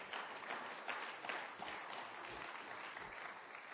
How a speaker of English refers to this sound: You can give the Lord a hand clap for that. Thank you, Jesus.